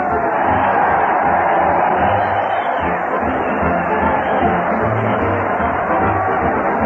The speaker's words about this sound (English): Listen to that crowd cheer Fred Allen as he leads his weekly parade at the old Town Hall